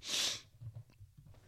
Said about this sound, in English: Sniffing too much? On coke.